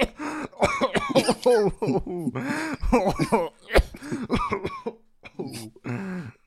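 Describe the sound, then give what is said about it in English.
Someone fakes a string of coughs and throat-clearing sounds, imitating Santa with COVID coughing on cookies. The coughs are mixed with voiced, speech-like noises, fairly loud, with short pauses between bursts. “breaks in the house and coughs on some cookies and stuff.”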